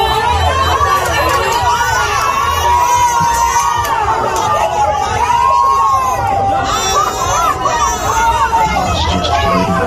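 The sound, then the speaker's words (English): A large crowd shouts and cheers continuously, a dense wall of overlapping voices and excited yells that stays loud for the whole stretch. “Look at the crowd here. It's gonna get worse.”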